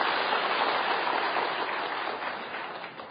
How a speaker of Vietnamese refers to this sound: Đúng vậy, hoan nghênh câu đó, một tràng pháo tay giùm tôi.